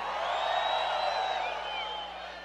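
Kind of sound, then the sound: crowd, audience shouting and cheering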